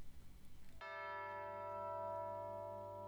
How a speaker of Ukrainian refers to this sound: Дзвін бомбляє десь у монастирі, поклони б'є у лаврі